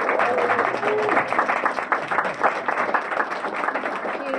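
An audience applauds steadily, a dense wash of many hands clapping at a constant, fairly loud level for the whole stretch, with faint voices mixed in beneath the clapping.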